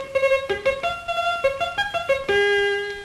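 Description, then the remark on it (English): An early electronic keyboard instrument, the Ondes Martenot, plays a short, brassy melody imitating a trumpet: about eight clear, distinct notes in a bright, buzzy tone, ending on a longer held note, with no voices. “Will you play some effects? Yes, certainly. Here is a trumpet.”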